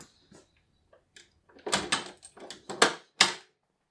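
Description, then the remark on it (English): A stiff, warped and cracked wooden door is forced open with a series of scraping, cracking creaks and thuds, starting faint and growing louder in bursts over a few seconds, with no voices. “I'm surprised that even opens. How is it all warped and cracked like that?”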